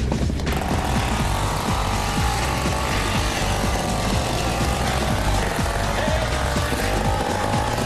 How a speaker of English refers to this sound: We got engines going for the custom cruisers.